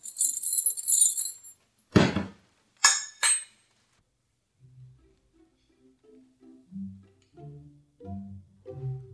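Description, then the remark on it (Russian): A bright metallic jingle of library keys being handed over for about a second, followed by three sharp clacks, then soft, low musical notes begin to play. “Вот ключи.”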